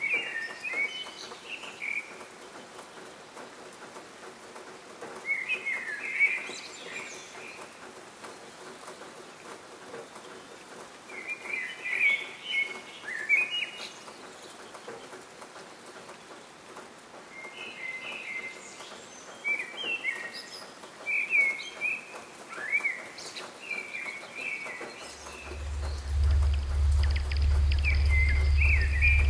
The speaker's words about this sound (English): This is the sound of the bird's dawn chorus and the earth's dawn chorus. Shifting together as the planet turns, they usually sing at the same time.